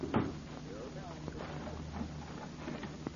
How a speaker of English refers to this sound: Lock the door. Yes, sir.